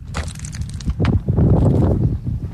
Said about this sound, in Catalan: Fa molt de vent, doncs... Sí, hi ha molt bé. Cada dia que connectem, cada dia fa vent.